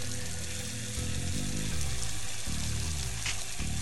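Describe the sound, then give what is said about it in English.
Water from a hose, driven by a pump powered by a Jeep's winch, pours steadily down a spout into a dirt mound, a continuous splashing gurgle with low bubbling tones shifting underneath, fairly loud, no voices. “They come back with a length of hose and a pump powered by the Jeep's winch, and they get to work pouring water down the spout into the mound.”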